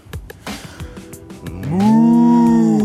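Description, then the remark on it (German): After a moment of soft, shuffling breath sounds, a person turns to face a slope and exhales in one long, loud, drawn-out moo, imitating a cow with a steady, resonant voice that holds until the end. “Und dann ausatmen. Und zwar in Sprache einer Kuh.”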